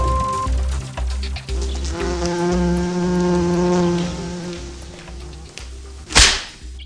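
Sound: wasp buzzing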